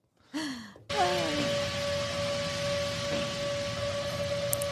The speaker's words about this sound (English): So now the thing is taking off, and that's what all this noise is. And I think what you're hearing actually is the drones, the sounds of the drones.